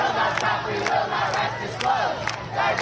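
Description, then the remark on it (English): A large crowd of student protesters calling for an end to the conflict in Gaza chants in unison, a loud steady roar of many voices punctuated by rhythmic accents roughly twice a second, with no single voice standing out. “The protesters there and at other schools calling for an end to the conflict in Gaza.”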